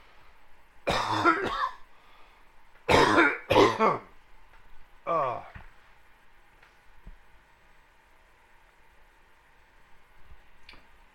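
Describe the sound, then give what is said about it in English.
A man pausing from a Bible reading clears his throat several times in short, forceful bursts into the microphone, ending with a softer, raspy rumble, then quiet with a faint tick near the end. “I got to clear my throat again.”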